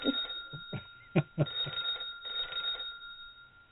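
telephone ringing

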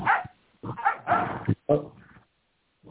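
dog barking

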